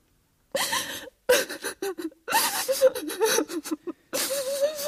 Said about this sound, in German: Da fing sie an zu weinen und weinte immer lauter und konnte sich gar nicht trösten.